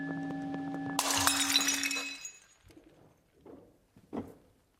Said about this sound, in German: Ich bin echt ungeschickt. Das ist bloß Krimskrams. Ich werf immer alles. Bloß eine kleine Porzellanfigur. Runter. Vielleicht könnte ich sie wieder zusammenkleben, oder... Das ist Porzellan.